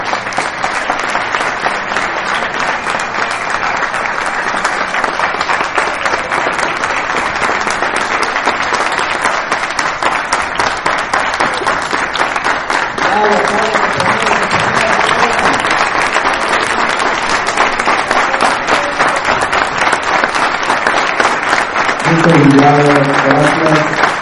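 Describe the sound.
Sustained, loud applause from a large audience fills the room with dense, steady clapping, and a voice begins speaking over it near the end.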